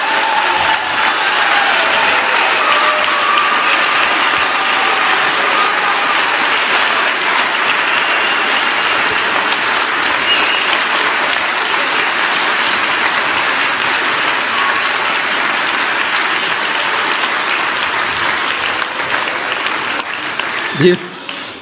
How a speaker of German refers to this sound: Ihr habt's hoffentlich gemerkt, dieser Applaus war nicht nur für dieses Lied, was ihr gerade gesungen habt, sondern für das grandiose Weihnachtsspiel. Es war einfach umwerfend.